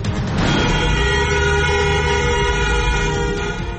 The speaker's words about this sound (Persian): بوخ‌های ممتد خودروها در 20 شب اعتراضات ایران.